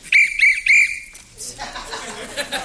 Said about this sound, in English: Why, I've got my official park whistle.